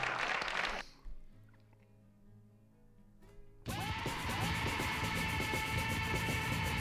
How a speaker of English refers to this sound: These are the sounds I put in for our 400th extravaganza. There's four people clapping.